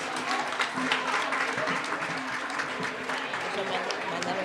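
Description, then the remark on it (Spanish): Sustained audience applause, a dense, steady wash of many hands clapping at an even loudness for several seconds, with faint voices mixed in underneath. “Aplausos.”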